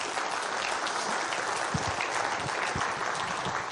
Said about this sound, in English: And I just want to give a clap for Pastor Kevin.